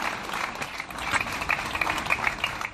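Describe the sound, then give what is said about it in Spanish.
Warm applause from a large crowd of Pamplona residents in the Plaza Consistorial, Pamplona, ending a midday gathering with a minute of silence for victims of the DANA: a steady, dense wash of many hands clapping, with crisp overlapping claps and no voices rising above it. “Una concentración respaldada por numerosos pamploneses que terminada con un cálido aplauso.”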